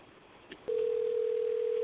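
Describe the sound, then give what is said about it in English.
A steady electronic ringback tone comes over a phone line after a brief click, sounding continuously and fairly loud as a call waits to be answered. No one speaks. “Yes, I'm calling. You might as well pick up the damn phone.”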